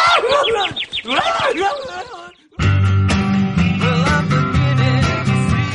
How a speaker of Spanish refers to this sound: ¡Un pajarito!